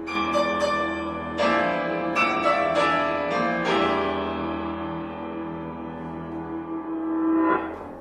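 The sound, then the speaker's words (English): Resonant bell tones in a piece of music, each representing the first huge wave that buoys receive across the Pacific, struck one after another in an irregular pattern, each ringing with rich, sustained overtones that blend into a humming drone, with one more strike near the end. “And each bell tone represents the first huge wave that buoys receive as they go across the Pacific.”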